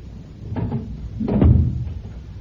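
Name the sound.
bathroom door being closed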